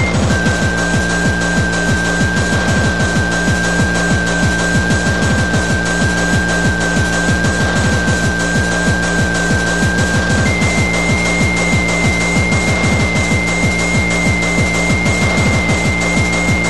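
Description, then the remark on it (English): A steady sine-wave test tone at reference level holds one pitch, then steps up to a slightly higher pitch partway through, sounding over constant loud hiss and a rhythmic low, buzzing pulse. “Sine wave tones at reference level.”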